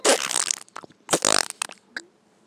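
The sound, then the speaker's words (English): A loud, wet fart: a long, spluttering blast, then a second buzzing burst and several short, moist sputters trailing off into quiet. No one speaks. “Sniff that nasty fart, baby.”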